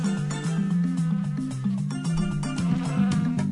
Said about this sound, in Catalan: Tots coneixem i patim aquests enemics de l'estiu, els mosquits. Un mosquit de l'ametlla m'ha picat a l'orella, un mosquit de taüll m'ha picat a l'ull.